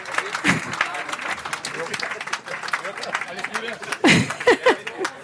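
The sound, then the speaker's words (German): An audience applauds steadily as the VfL press spokesperson is called onto the stage, a dense, crackling wash of many hands clapping throughout, with a few voices calling out and some laughter rising near the end. “Einmal Applaus.”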